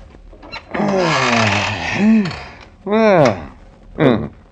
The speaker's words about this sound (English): What? What's that? Oh, just the chair. Fits pretty good. The chair fits? Yeah, my boss is on vacation. I'm just trying out his chair.